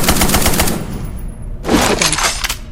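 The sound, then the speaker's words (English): Rapid bursts of machine gun fire in a video game, weapon number 8, a fast rattling string of sharp loud shots, pausing briefly before another burst; no one speaks. “Number 8 is the machine gun.”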